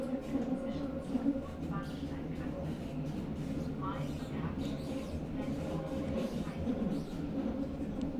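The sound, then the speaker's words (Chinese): Steady, continuous rumble of a subway car in motion, carrying a seated passenger from the first station to the last, with a low droning hum, occasional faint metallic squeals and indistinct murmuring voices in the background throughout. “你那边地铁挤吗？我还坐着呢，你像我一样吗？从起点站坐到终点站？”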